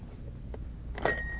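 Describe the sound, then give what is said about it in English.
A toy phone's bell strikes once with a sharp, bright metallic ring that lingers to the end, as a parent makes a child's toy phone ring, over a low background hum with no talking. “Ringing the phones.”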